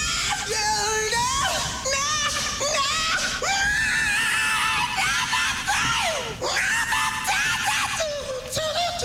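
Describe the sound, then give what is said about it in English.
Loud screaming fills the whole stretch: strained, raw cries that swoop up and down in pitch, one after another with only brief catches of breath between them. “The future rocker came into the world in the same way he would eventually spend his life, screaming.”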